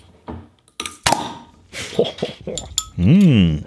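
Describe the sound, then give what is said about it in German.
Glasses clink together once, a sharp ringing tap among some soft handling noises, followed by a voice speaking briefly. “Ich dachte, hier wäre ein Stück Glas abgesprungen.”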